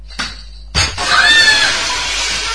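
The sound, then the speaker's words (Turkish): A brief knock, then a loud crash of a window pane breaking after being hit by a kicked ball, with bright, ringing shards clattering and tinkling for over a second as the noise slowly fades. “Eyvah, cam kırıldı.”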